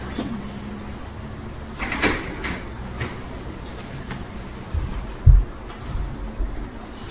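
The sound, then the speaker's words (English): A chair is carried in and set down: a few scuffs and knocks, then a dull thud on the floor, against a steady low hum with no one talking. “Comes chair number one, right behind you.”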